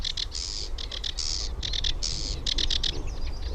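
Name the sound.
sedge warbler song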